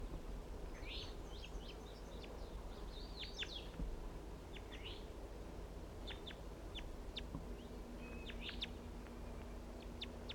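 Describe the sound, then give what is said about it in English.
A wild bird calls with a series of short, high chirps and sharp whistled notes, irregularly spaced, over a steady low rumbling background. “And that's him calling right there.”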